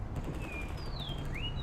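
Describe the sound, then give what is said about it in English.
A few thin, high-pitched bird whistles in a video game sweep and chirp over a steady low rumbling background, fairly faint and spaced out, with no one talking. “Birds all over the place.”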